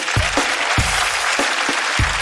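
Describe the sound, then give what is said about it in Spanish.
A crowd applauds steadily, a dense wash of overlapping claps with a few sharper, louder hand claps standing out now and then. No one speaks. “Un fuerte aplauso.”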